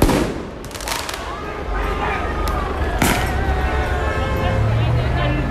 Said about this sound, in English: There were also fireworks in Atlanta.